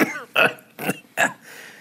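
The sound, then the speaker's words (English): Someone fakes a short fit of coughing: three rough coughs with a throaty rasp, evenly spaced about half a second apart, with no talking around them. “He coughs.”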